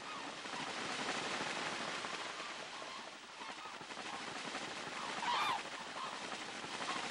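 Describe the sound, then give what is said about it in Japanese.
A dense, rushing flutter of many wings beating at once as a large flock of white birds rises into the sky together, with a brief louder burst partway through before the flapping carries on steadily. “ところがあらあら不思議、姫の歩いた後から後から、鏡餅は白い鳥になってバタバタと空に舞い上がった。”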